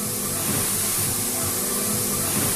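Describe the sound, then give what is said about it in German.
Vinyl record presses in the hall of a record pressing plant churn out a loud, steady hiss, with dull low thumps pulsing underneath in a loose repeating rhythm. No one speaks. “Der Beat gliedert sich perfekt in das Wummern und Zischen der Maschinen.”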